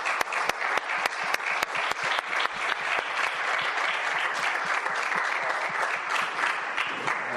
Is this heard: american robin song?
no